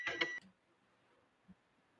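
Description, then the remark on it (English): A microwave in the background during an online call gives a short, bright electronic beep lasting under half a second, followed by near silence with one faint soft thump. “Sounds like you had like a microwave in the background.”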